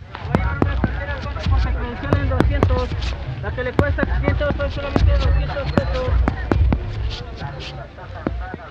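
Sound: fireworks rockets exploding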